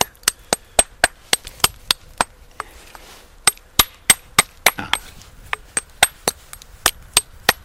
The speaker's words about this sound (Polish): Następnie jeszcze biorę taki już rozbity kamień. Najczęściej on ma boki ostre, więc mniejszym młoteczkiem obijam ostre krawędzie.